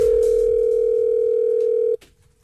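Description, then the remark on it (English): A telephone dial tone, heard while placing a phone call to Dolphin Marine Magic, holds one steady, loud, low-pitched hum for about two seconds, then cuts off abruptly with a faint click, leaving near silence. No one speaks. “I'm going to punch in the number. Good luck.”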